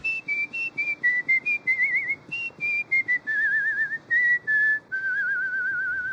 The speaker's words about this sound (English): And my favorite way to whistle really is just to freestyle.